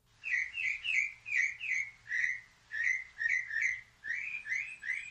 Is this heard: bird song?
yes